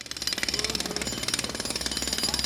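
A jackhammer worked by construction workers breaks up Avenida Atlântica along Copacabana beach in Rio de Janeiro, in over 30 degrees and blazing sun, ahead of World Youth Day; it pounds in a fast, steady rapid-fire rhythm, loud and harsh with a broad rattling clatter, continuous throughout with no voices.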